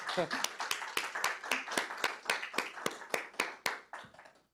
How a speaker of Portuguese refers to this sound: Então, acho que é uma salva de palmas aí